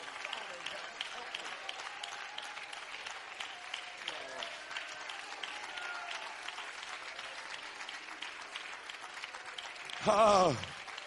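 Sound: audience clapping hands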